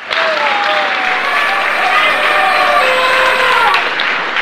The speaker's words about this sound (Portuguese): Todos saudaram os nossos heróis num forte aplauso.